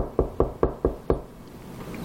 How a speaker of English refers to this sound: I knock on the door. This door made in 1942 originally.